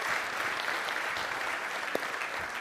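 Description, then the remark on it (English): An audience applauds steadily to thank the nursery workers, many hands clapping together in a dense, even wash of sound with no pauses, moderately loud throughout and no voices standing out. “Give them a hand clap, because they loved on babies all week.”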